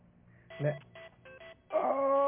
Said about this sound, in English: That is it right there. That's why I made it my ringtone, because I like it. How you answer this thing? You got to slide it. Those things are crazy.